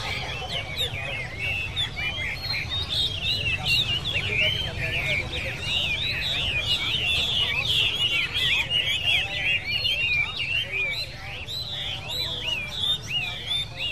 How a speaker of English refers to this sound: men hang their cages so that the birds can be near one another and socialize. They like to show their birds off to one another. So the birds sing their hearts out, and the men sit at the cafe tables and drink coffee and chat, surrounded by birdsong.